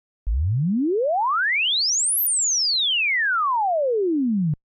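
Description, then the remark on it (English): A pure sine tone sweeps steadily upward from a low hum to a piercing high pitch, then glides smoothly back down, lasting about four seconds at constant loudness with no voices. “Swept sine wave.”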